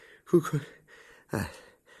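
Two heavy, loud breaths about a second apart, each a rough, partly voiced huff like someone panting from exertion, with quiet pauses between them.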